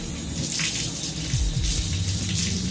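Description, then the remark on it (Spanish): Water splashes and sloshes in a bucket of water in a kitchen as a head is pushed into it, in a steady, moderately loud rush, with low gurgling swells partway through. No voices are heard. “Cuando el joven estaba ya casi inconsciente y Dennis se sentía cansado por el esfuerzo, decidió llevarlo a rastras a la cocina para rematarlo metiendo su cabeza en un cubo de agua.”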